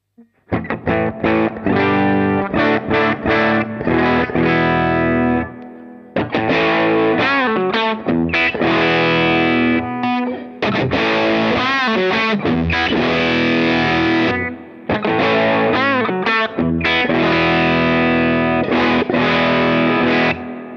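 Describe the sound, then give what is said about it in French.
Electric guitar played through a two-channel overdrive pedal, each channel with its own volume and gain, into an amplifier with reverb. Loud, strumming crunchy distorted chords and riffs almost continuously, with brief pauses around a few phrase changes and no voices. “Donc on peut avoir deux niveaux de gain. Démonstration tout de suite.”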